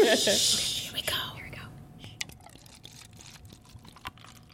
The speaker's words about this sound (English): Did you even hear that? The sound of wine hitting a plastic glass.